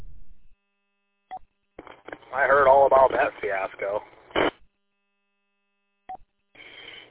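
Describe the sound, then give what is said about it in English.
Short single telephone keypad beeps sound at the start and again near the end, with a click between them and a thin, phone-line voice talking in the middle, as someone leaves a message on the Hoyt phone. “Had to leave someone a message on the Hoyt phone.”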